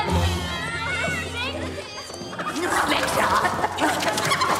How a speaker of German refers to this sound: Wer war das? Ein Huhn.